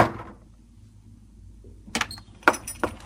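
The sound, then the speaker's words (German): After a quiet moment, someone knocks on a door: a few sharp raps spaced unevenly over the last second or so, with no talking. “Mit der ihm eigenen Nonchalance, physischen Präsenz und unnachahmlichen Coolness an die Türe klopfen, sich grinsend vorstellen und zuschlagen.”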